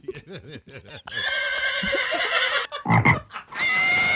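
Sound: frog croaking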